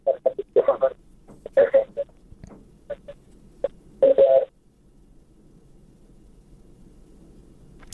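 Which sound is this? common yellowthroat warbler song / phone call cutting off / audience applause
phone call cutting off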